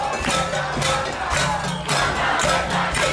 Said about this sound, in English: a crowd gathered outside the governor's mansion calling for her resignation. Their chants sounded a lot like the ones that protesters used